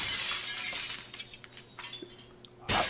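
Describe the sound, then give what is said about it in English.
Glass shatters with a loud crash, followed by scattered tinkling of falling shards and a second sharp burst of breaking glass at the end. No voices. “I guess I make my own glass.”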